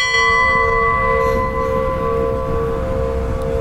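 Five golden hand-cast church bells of a secret alloy, brought from Russia and hung along the wall in the narthex of an Old Believer church in Ekopils rather than in a bell tower, ring out loudly, their long sustained tones humming and overlapping steadily against a rumbling low background, with no voices.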